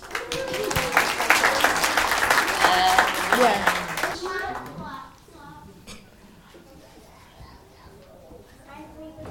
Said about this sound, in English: Let's give a round of applause to our Christmas lights professional and our living Christmas tree.